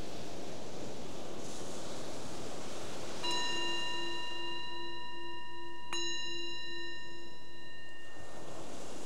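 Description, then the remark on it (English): A meditation bell is struck twice, a few seconds apart, each strike ringing out in a clear, sustained, shimmering tone that slowly fades over a soft, steady hiss of background noise. “The bell is the invitation to bring the awareness more back to the surface again from that exploration.”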